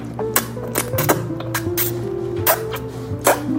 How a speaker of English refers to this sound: So that's the fun part about making ramen. You gotta get a big slurp.